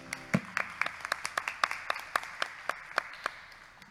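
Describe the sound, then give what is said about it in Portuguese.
An audience at an evening prayer group claps for Jesus in a steady, fairly even rhythm, with about fifteen sharp, crisp claps over a few seconds and no talking, gradually fading slightly toward the end. “E palmas para Jesus.”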